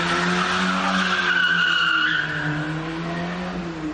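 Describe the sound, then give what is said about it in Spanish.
Car tires skid and squeal loudly over a steady engine drone, a high shrieking whine rising and sliding for several seconds before easing slightly, with no voices, as two thieves flee by car after robbing a jewelry shop in Moreda in the early hours of October 31. “Es la huida de dos ladrones que acaban de desvalijar una joyería en Moreda.”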